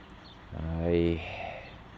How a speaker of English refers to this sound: There's a big truck, a big flatbed, fires up its engines. Obviously, the guy's overnighted there in his cab. Getting ready for his morning journeys.